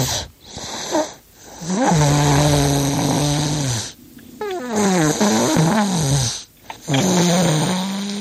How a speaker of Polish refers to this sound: Naszej słuchaczki, która nam wysłała chrapnięcie